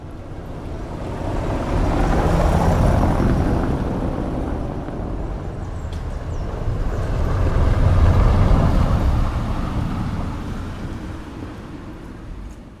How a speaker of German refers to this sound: Ich wollte nur noch mal hören, ob wir tatsächlich den besten Wagen hinabrollen lassen. Na, Hauptsache, es erschließt sich das Gefälle.